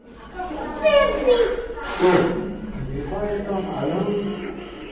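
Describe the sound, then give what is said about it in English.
High-pitched toddler voices babble and squeal, with one sharp excited shriek in the middle, over a lively indoor background of small children at play, as toddlers run from framed picture to picture in an exhibition gallery. “Pure joy from toddlers, running from framed picture to picture, recognizing the mole and other Miller characters.”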